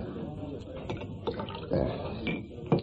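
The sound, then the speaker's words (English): Water is poured into a large scotch in a short trickle with a couple of brief splashy bursts, fairly quiet, with faint room murmur beneath. “Water? I'll see to it, thanks.”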